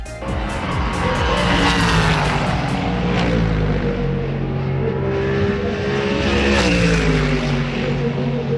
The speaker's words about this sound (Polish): natomiast na torze Poznań ścigały się samochody. Kolejna runda wyścigowych samochodowych Mistrzostw Polski.